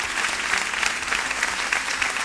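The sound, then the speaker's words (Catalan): An audience claps steadily, a dense, even wash of many hands with no pauses or voices on top, holding at a consistent loud level throughout. “Un aplaudiment per ella, eh?”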